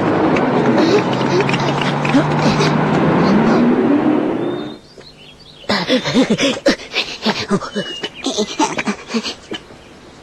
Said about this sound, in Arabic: ها ها هي السيارة قد جاءت.